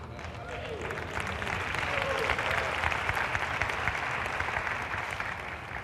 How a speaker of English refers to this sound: You ain't got to clap. You make me nervous when you clap. I don't know what you're doing. I don't know if you're trying to set me up or what.